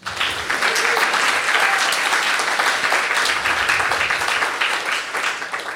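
A crowd applauds steadily for several seconds to welcome the director general of Amnesty International Canada francophone: a dense, even wash of many hands clapping at a sustained, fairly loud level with no speech over it.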